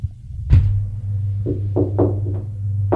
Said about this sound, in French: A frappé à la porte. « Entrez !» C'est le domestique.